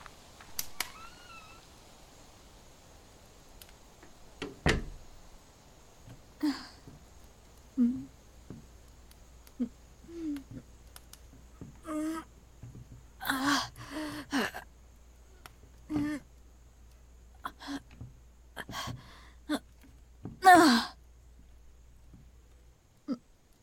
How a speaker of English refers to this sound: The latch to my door broke a while back. Pushing this in front of the door is the only way to keep it closed.